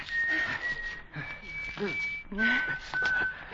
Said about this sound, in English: The machine gun was about 60 feet away somewhere beyond the fog. But the whistling of the gunner was a guide.